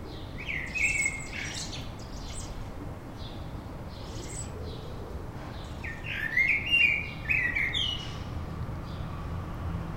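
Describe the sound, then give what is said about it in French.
High, thin chirping from a baby bird chick, a few short bursts early on and a busier cluster of twittering calls later, over a steady outdoor background hiss. “C'est le petit là qui gazouille.”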